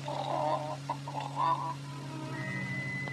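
A hen out walking in a farmyard with her ten chicks clucks in a few quick, nasal bursts over the first second and a half, then falls quiet, leaving a steady low hum and a faint high tone.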